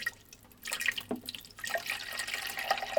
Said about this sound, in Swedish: Och där är det rätt bra att sätta en tratt i där. Så ner med tratten i hålet och... Och sen häller man i vattnet där.